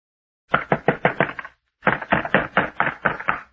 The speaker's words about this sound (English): It will be your duty to get him to quiet down. Keep him from pounding on this door.